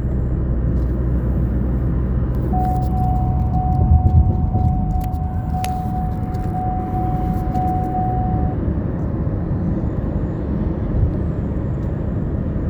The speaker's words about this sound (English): I'm on the highway. Roto-Rooter's letting me over. The Roto-Rooter guy is the only one that would let me over.